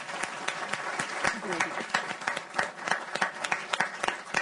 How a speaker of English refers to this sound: So actually, why don't we just do this now since you came out and shook everybody's hand. Give Reverend Jesse Jackson a round of applause.